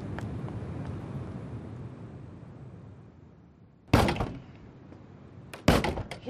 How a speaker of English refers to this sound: Who's that? Why did he shut the door?